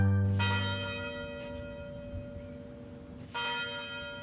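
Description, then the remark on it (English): The University of Detroit Mercy tower chimes ring out, with two strong bell strikes about three seconds apart, each leaving long sustained harmonic tones that linger and slowly fade. No voices are present. “The university tower chimes ring in another session of Ask the Professor, the radio show where you match wits with University of Detroit Mercy professors in an unrehearsed session of questions and answers.”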